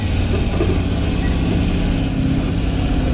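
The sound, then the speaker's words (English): A V8 car engine runs steadily, a loud, deep rumble with a throbbing low pulse that holds even throughout. “And this is a V6 engine. V8. V8 engine.”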